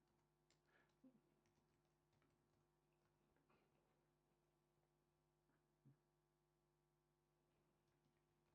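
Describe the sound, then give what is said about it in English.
A few faint, irregular taps on a computer keyboard while editing duplicate entries in a reference library, scattered across a quiet stretch, with a steady low electrical hum underneath and no talking. “Let's type a bit more, and we have now a few copies of the Eisenhardt article.”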